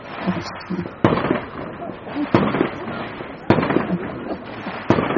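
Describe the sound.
Fireworks and firecrackers go off on the fireworks night of Govardhan Puja: four loud, sharp bangs at irregular intervals over a continuous crackling, popping din, with faint voices in the background.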